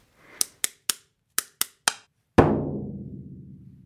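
Sharp knocks on a door in a rhythmic pattern: two quick groups of three, then one heavier blow whose deep, booming resonance rings on and slowly fades. No one speaks.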